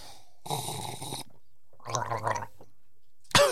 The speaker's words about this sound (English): has had a gargle